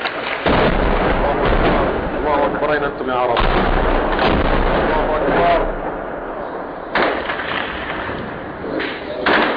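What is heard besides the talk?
mortar shell explosions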